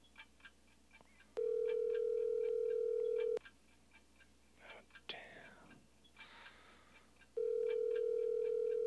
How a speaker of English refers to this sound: Girl, let me answer this damn phone.